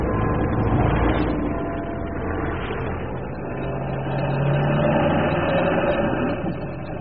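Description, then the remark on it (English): A small car engine runs steadily for several seconds, a loud, continuous low rumble with a rough mechanical buzz that rises slightly in pitch near the end. No one speaks. “is this the tiny little car you were telling me about?”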